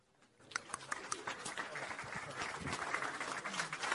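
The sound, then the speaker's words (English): An audience at Elmbrook Church breaks into applause for an introduced speaker after a brief quiet start, many hands clapping in a dense, crackling wash that builds and stays steady, with faint voices mixed in. “Well, you clapped beforehand.”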